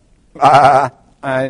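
Two loud sheep bleats: a long, wavering baa followed after a short pause by a briefer second one, with no talking.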